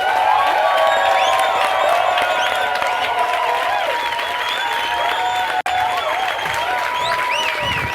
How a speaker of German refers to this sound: Dann fangen wir wieder mit dem Wetterfax an. Applaus fürs Wetterfax!